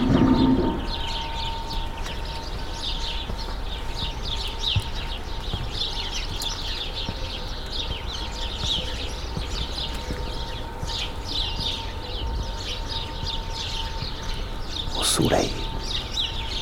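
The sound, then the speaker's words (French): At 9 a.m. in a village waking up, a dense chorus of many birds sings continuously in the sun, overlapping chirps and trills filling the air, with doves cooing low beneath them over a steady outdoor hum and one brief louder rustle near the end. “Au soleil, des myriades d'oiseaux qui chantent.”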